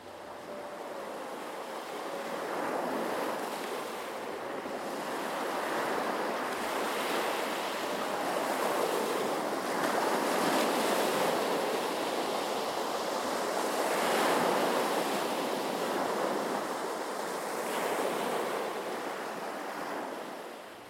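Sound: ocean waves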